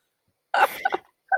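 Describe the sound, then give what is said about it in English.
A sudden, sharp sneeze bursts out of silence, a breathy, wide-spectrum blast lasting about half a second, followed by a brief pause and the start of another short vocal burst. “Bless you.”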